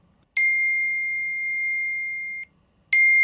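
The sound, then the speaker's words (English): A phone ringtone: a bright, high chime strikes and holds a steady ringing note for about two seconds, then stops, and an identical chime starts again. No one speaks over it. “we don't need to go through ringtones.”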